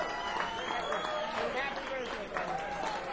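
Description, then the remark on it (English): A crowd applauds the band with steady, dense clapping that carries on without a break, mixed with a murmur of voices and cheers. “Give the band another nice round of applause.”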